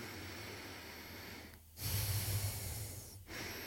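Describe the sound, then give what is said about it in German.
Steady breathing in and out through the left nostril only, with the right nostril held closed: a long hissing inhale and exhale, with a brief pause between breaths and a slightly snorty, airy texture. No talking. “Vielleicht darf ich das kurz anleiten, dass man einfach jetzt mal so beginnt, dass man mal eine Nasenhälfte, die rechte, zudrückt und einmal nur durch die linke ein- und ausatmet.”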